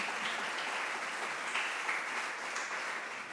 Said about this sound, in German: Ja, können wir schon klatschen.